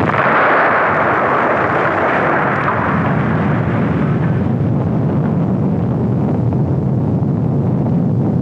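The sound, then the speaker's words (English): A loud explosion erupts into a long, roaring rumble, its hiss fading over several seconds into a heavy low-end churn that continues steadily to the end. No voices. “Explosion and”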